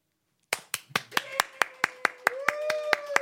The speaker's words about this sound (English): As you can tell, not even anyone that works on the show is excited about it because that was the most delayed, insincere, give-a-fuck clap I've ever heard in my life.